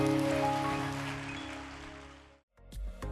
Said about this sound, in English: Let's give all those that prayed that prayer today a big, big hand clap.